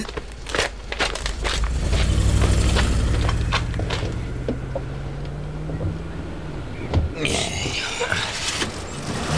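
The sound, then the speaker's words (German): Low engine rumble of the Piranhas' cars pulling away, a steady droning hum that gradually fades into the distance, with scattered clicks and rustling sounds. “Die Autos der Piranhas sind schon fast gar nicht mehr zu sehen.”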